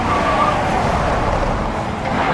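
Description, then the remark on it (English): A car on Bridgestone tires accelerates hard and roars loudly and steadily through a dramatic right turn, engine and road noise filling the moment with a faint tire squeal near the start, no voices. “Punch it. Dramatic right turn.”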